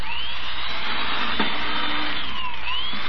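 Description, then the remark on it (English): An electric drill whines steadily as it bores holes through a board meant to be the top of an end table, its high motor pitch sagging and rising under load, with a short sharp crack partway through. No one speaks. “Look at it drill holes through this board. Oh, it drills too fast.”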